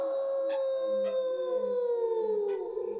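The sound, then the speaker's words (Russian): A long, drawn-out shout of "Ау!" sustained for several seconds, its pitch sliding slowly downward with a hollow, echoing quality, like a call ringing back through open woods; no talking. “Повторило эхо.”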